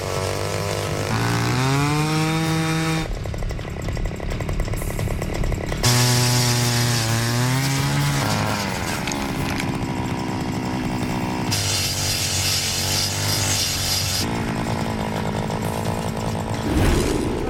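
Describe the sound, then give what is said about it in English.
A gas-powered ice auger roars continuously, its engine pitch rising and falling as it revs and bogs down while drilling holes through ice about 4 feet deep without reaching water. No one speaks. “All these holes I dug, I mean, you've got 4 foot you can go down, and I'm not hitting water, I'm staying on ice.”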